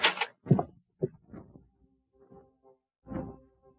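A door opens with a few sharp knocks and latch clicks, then a softer creaking rattle and one last thud, with no one talking.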